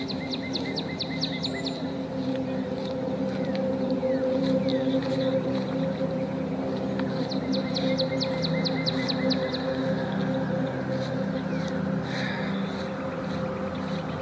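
Birds chirp outdoors in quick, repeated bursts of high notes, a few short trills spaced apart, set against a steady low droning hum in the background.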